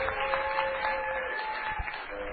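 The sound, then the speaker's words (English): A room full of people clapping together in a steady, dense wash of applause that holds at an even level for a couple of seconds, with no voices over it. “Give our hands a big round of applause.”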